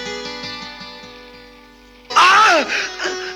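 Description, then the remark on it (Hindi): A steady tonal hum plays for about two seconds, then a person suddenly cries out in pain, a loud strained yell sliding down in pitch, followed by a shorter second outburst. “लगी है तो दुखेगा भी, इतना चिल्लाते क्या हो?”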